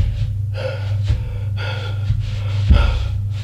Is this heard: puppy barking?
no